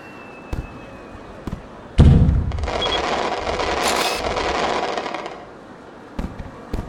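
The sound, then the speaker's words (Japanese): Fireworks go off close by while someone takes a picture with the fireworks in the frame: a few sharp pops, then a loud boom that spreads into several seconds of dense crackling before fading, followed by more scattered bangs. No one speaks. “おお、見て、花火もぴったり入ってる。”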